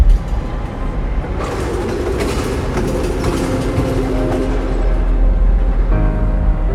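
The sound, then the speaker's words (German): A tunnel boring machine, built to bore a railway tunnel through the Alps for the Lyon–Turin line, running in a factory hall: a loud, steady mechanical rumble with a low droning hum and scattered metallic clatter, continuing throughout without any voices. “Die, an der wir gerade vorbeigehen zum Beispiel, die wird bald 300 Meter lang sein und einen Eisenbahntunnel durch die Alpen bohren.”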